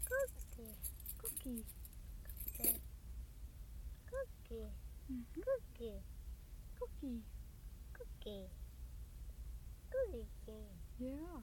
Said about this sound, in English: Shall I put the keys back on? Put it back on the ring?